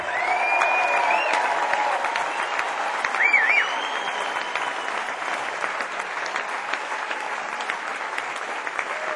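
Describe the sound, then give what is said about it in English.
An audience at the Palladium claps steadily and densely throughout to welcome a saxophonist, with a couple of short, high whistles rising above the applause early on; no one speaks. “On the saxophone, please give a Palladium welcome”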